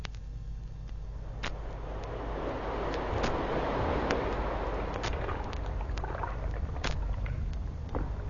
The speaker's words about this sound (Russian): Слышишь? Море, нарисованное на картинке, оживает.